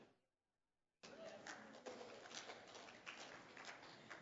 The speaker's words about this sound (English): That was a golf clap right there.